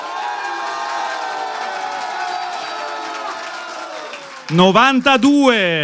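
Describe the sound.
A live audience cheers and claps for an applause meter after a song performance, in a steady, dense roar for about four seconds, with shouts rising from the noise; the meter reads 92. A loud voice then cuts in and talks as it dies away.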